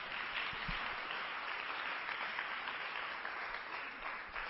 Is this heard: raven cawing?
no